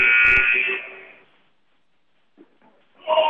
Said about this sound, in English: And the buzzer means the start of the fourth.